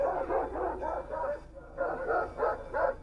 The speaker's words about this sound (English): It's from 2014 over in Germany with a shepherdess, so it's a lady who is out shepherding her sheep on the hillsides of Germany. This is a shepherd dog coming at the car. The sheep get scared.